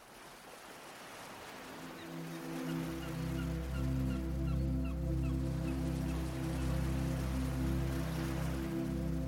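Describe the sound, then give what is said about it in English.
Faint, distant seagull cries in the early morning by the sea recur every second or so over a steady, sustained low musical drone and a soft wash of surf-like noise. No one speaks. “Jenny woke slowly to the distant cries of seagulls and the feeling of the warm early morning sun resting on her face.”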